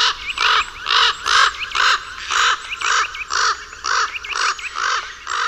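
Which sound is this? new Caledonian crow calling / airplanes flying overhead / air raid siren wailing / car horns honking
new Caledonian crow calling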